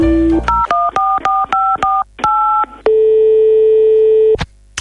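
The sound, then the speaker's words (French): A brief telephone dial tone gives way to a quick run of about eight touch-tone beeps as someone calls a lawyer and a notary's clerk, then a long, steady mid-pitched tone holds before ending in a click. No one speaks. “Mais avant tout, puisqu'on va parler d'argent, car business is pognon, tout le monde le sait, je vais me permettre d'appeler mon avocat et son clerc de notaire.”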